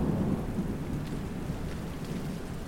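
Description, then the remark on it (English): Steady heavy rain pours down during a storm with a deep, continuous rumble of thunder underneath, loud, filling the whole stretch without any voices. “Maybe that's best after the storm.”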